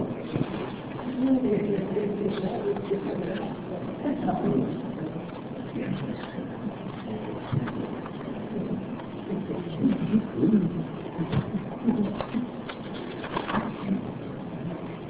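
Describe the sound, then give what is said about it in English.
Soft, low cooing of pigeons or doves up overhead repeats through a muffled, noisy background, steady and moderately loud, with an occasional flutter that might be wings. “The birds are not up there to benefit it.”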